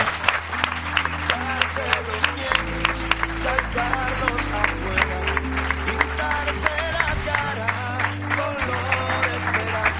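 An audience of people from Santander claps and cheers steadily for the full ten seconds, a dense crackle of applause laid over a music bed with a deep, stepping bass line.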